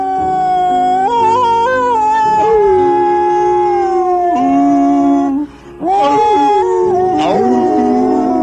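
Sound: stray dogs howling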